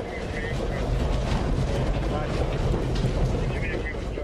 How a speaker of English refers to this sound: Soon the truck is slowly rolling down a rocky road well underground past safety chambers, ventilation units, and other equipment.